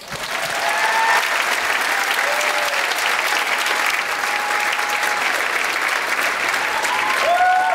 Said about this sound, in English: And the crowd goes wild.